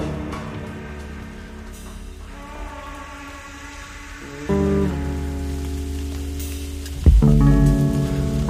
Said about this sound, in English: And outside, I think it's rain.